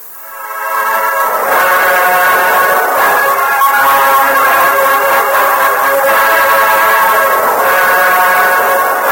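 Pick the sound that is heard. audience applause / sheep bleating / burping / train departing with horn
train departing with horn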